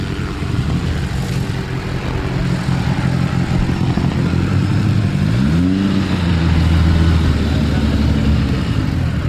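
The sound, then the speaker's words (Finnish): A rally zero car on the course pulls away with a loud engine drone that swells and rises in pitch as it accelerates mid-clip, then settles into a steady rumble as it drives off. “Nolla-auto pois.”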